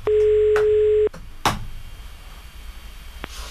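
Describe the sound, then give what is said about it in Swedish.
A single steady telephone ringing tone sounds loudly for about a second, then cuts off, followed by a sharp click like a line being picked up and faint background hiss, as the police in Gothenburg phone a man. “Det vill sig inte värre än att han blir ertappad, och nu ringer polisen och vill ha kompensation, men det blir inte den kompensation han har tänkt sig.”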